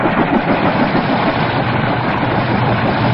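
A helicopter engine idles with a loud, steady rumbling drone that holds an even level throughout, a dense mechanical whir with no voices over it.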